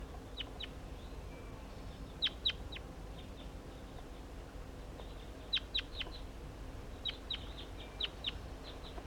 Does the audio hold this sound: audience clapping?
no